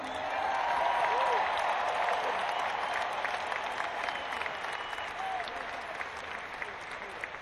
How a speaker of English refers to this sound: We've got a big crew here. I'd like to give a big cheer for the best crew in the world.